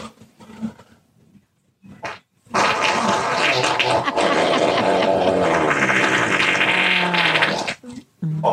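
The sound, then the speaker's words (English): A loud, buzzy hand-made fart noise, made by rapidly lifting the hand up and down, with a quacking, sputtering tone like a duck quack, preceded by a few short bursts, then sustained for about five seconds before cutting off. “Or, if you're looking for extra fun, you can rapidly lift your hand up and down, creating a duck quack sound.”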